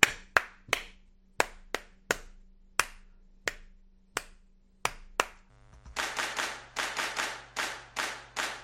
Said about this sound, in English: So now my 100 is like clap. Sorry, I won't say clap at the same time because I'm clapping.